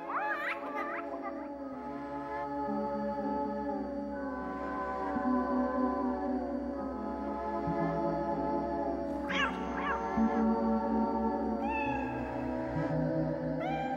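A cat meows repeatedly over a steady low hum, with a loud burst of meowing at the start and another cluster near the end, the cries rising and falling in pitch.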